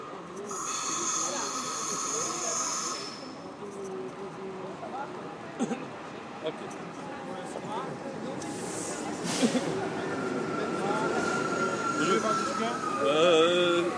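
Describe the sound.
Busy railway platform ambience with a steady hiss and rumble from a train, a brief high whine at the start, and people talking in the background throughout.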